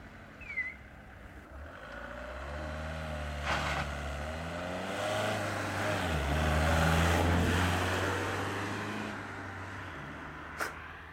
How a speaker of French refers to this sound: C'est comme ça, le matin, quand il y a le marché des bras, c'est comme ça, il y a des voitures qui arrivent et ils chargent jusqu'à 10-12 personnes dans la voiture.